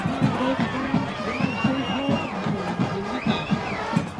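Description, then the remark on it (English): A crowd at Thunder Basin Stadium cheers and roars steadily for several seconds after a 47-yard tying field goal attempt by Cheyenne Central goes wide left with no time remaining, a dense wash of many shouting voices with a few higher whoops rising above the din. “It's wide left! He missed it! Listen to the Basin Nation as they rejoice!”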